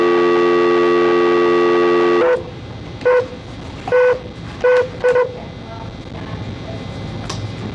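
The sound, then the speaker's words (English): A steady telephone dial tone hums for two seconds, then cuts off as five short keypad beeps are dialed at uneven intervals over a faint line hiss, as another phone call is patched in. “We're going to stay on, but we got to get another phone call patched in.”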